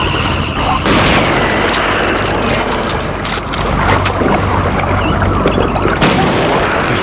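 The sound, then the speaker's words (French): Loud, continuous battle noise of an attack on a boat with cannon, grenades and bazookas: repeated cannon blasts and explosions boom over a dense wash of rattling gunfire, with sharp bursts about every second or two and no pause throughout. “Lorsqu'il voit un bateau, il attaque mon libérateur. Canon, grenade, bazooka.”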